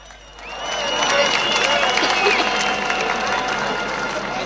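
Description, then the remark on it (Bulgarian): A large crowd at a rally at Orlov Most in Bulgaria bursts into loud, sustained applause with cheers and whistles to welcome poet Elena Alekova, the clapping swelling quickly and holding steady throughout, with voices shouting faintly in the mass of noise. “Уважаеми госпожи и господа, скъпи приятели, нека да посрещнем с големи аплодисменти госпожа Елена Алекова.”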